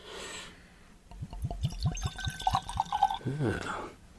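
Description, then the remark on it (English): High-proof whiskey glugs from a bottle into a glass in a quick rhythmic series of gurgles, the pitch rising as it fills, followed by a brief murmur of a voice. “Try to start with a little tight pour here.”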